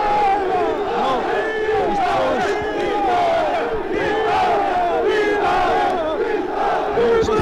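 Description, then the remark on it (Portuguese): A dense crowd shouts and cheers continuously, many overlapping voices calling out loudly in excited greeting, a steady roar with rising yells throughout. “Inteiramente submersos pela multidão.”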